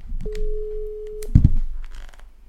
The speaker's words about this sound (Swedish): Vi ringer upp.